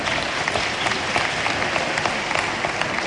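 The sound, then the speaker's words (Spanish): Steady applause from a sizable audience at the opening ceremony of the 2022 Hispanidad festivities. Many hands clap together in a dense, continuous wash that stays fairly loud and even throughout, with no voices standing out. “Bueno, sí, podéis aplaudir si queréis, ¿eh?”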